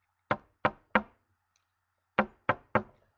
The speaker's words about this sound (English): Let's knock at the door.